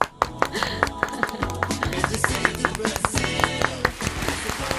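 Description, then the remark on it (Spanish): The programme's recorded studio applause plays as a short jingle: crisp, rhythmic claps ring out loudly over a bright, busy musical backing, lasting several seconds with no voices. “Se merece el aplauso del programa.”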